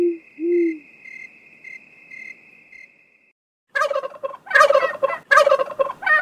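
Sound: turkeys gobbling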